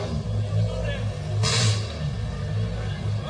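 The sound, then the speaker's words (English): A rally car with a father and daughter crew on board revs hard and accelerates away, a deep throbbing engine rumble throughout with a sharp surge of roaring noise about halfway through. “Lauren's back in the car. She's the Snapchat done. Well. Oh, there she goes.”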